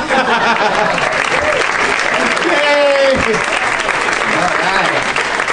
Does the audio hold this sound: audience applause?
yes